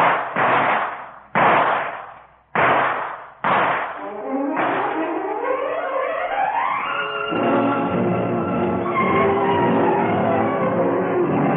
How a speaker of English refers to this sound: From the moment Skin Green jerks open the door, you remember nothing but the roar of guns, the split-second burst of light as something grazes your head, then fireworks.